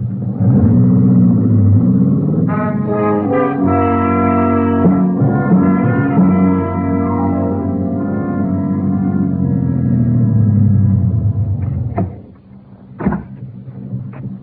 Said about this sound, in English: Wait. Somebody's coming. The car. Yeah. Hey, looks like they're turning into your lane.